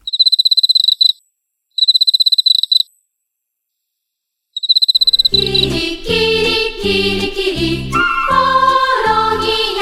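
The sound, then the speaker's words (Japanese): An Emma field cricket chirps in three loud, clear trilling bursts separated by short silences, before instrumental music starts and continues to the end. “まずはエンマコオロギです。”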